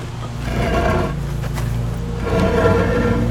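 A heavy cement well cap scraping as it slides off: a continuous rough, grinding rumble with a brief sharper scrape partway through, growing slightly louder toward the end, with no voices.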